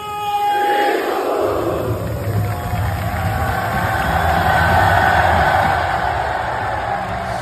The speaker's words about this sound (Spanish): Y hoy ha sido vitoreado por más de 3.000 aficionados del Getafe. Y eso ha provocado una... Ah, bueno, este es el momento en el que salía Greenwood.